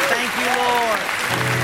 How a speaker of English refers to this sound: Would you give him a clap offering?